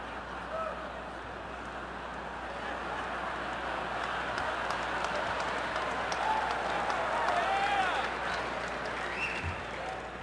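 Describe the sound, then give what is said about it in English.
A large convention crowd cheers and applauds after Mitt Romney's line promising to help families, in a dense, steady roar of clapping that holds for the whole stretch, with a few shrill whistles rising above it partway through. “Boy, the crowd went crazy on that one”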